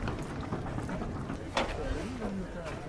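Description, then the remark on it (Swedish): Water splashes steadily against a boat alongside a faint clatter of lines and gear, with wind noise outdoors and a voice speaking briefly in the background, shortly before a boat race start. “Här plaskar det och linorna rasslar.”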